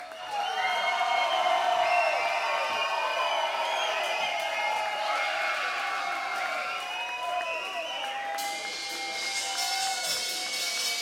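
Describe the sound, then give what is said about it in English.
A large audience at a live show cheers, whoops and shouts for a band's encore, many voices blending into a steady, loud roar that holds for about eleven seconds without easing off. “I'm going to walk away from the microphone, and I'm going to go over and knock on the door, and if you're making enough noise, we may be able to get them to come out. Come on, let's hear it.”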